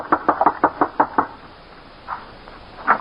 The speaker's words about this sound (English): So, just as I'd always done, I left Johnny in charge and rode down to the old-timer's shack and knocked on his front door.